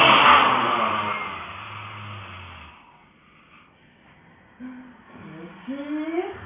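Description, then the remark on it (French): A loud, forceful roaring exhale with a low growl, a yoga lion breath done from the belly with the mouth wide open and tongue out after a big inhale, runs for about two and a half seconds, then fades into quiet before brief vocal sounds rise in pitch. “On va prendre une grande inspiration. Et on rugit.”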